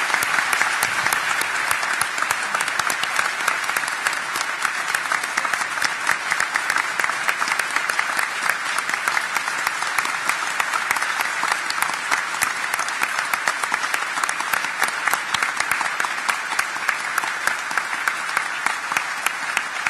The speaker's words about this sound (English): So let's just let's give them a round of applause.